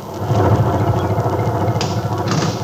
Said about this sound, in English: Well, wait a minute. There's the truck now. Oh, thank goodness.